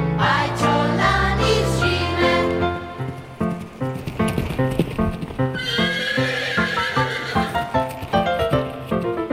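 A brown pony named Šime, kept in a bright stable, whinnies loudly in long, wavering neighs, followed by a steady clip-clop of hooves with more whinnying breaking in near the end; no one speaks.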